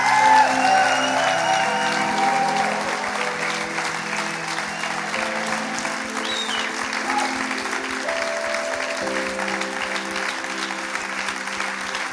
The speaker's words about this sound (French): And you can do that with a better clap. Et vous pouvez faire ça en applaudissant Amen. Un peu mieux.